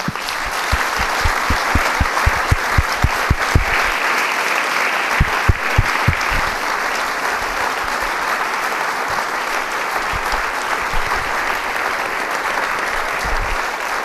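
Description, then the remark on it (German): A large audience claps steadily for about fourteen seconds for three panelists who work journalistically, legally and scientifically. It is a dense, even wash of applause with a few sharper individual claps standing out early on, loud throughout. “Und das verdient erstmal einen riesigen Applaus.”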